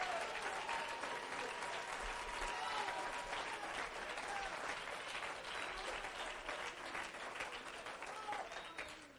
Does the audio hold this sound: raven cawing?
no